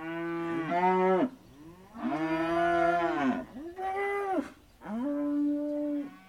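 Range cattle from the Simons family's herd of 750 range cows moo in a series of about four long, loud calls, deep and richly harmonic, rising then sagging in pitch, some overlapping one another, with no talking.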